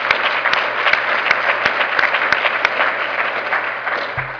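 An audience applauds Dr. Mike Fiore, many hands clapping in a dense, sustained wash of sound with a few sharper individual claps standing out, ending with a brief low thump.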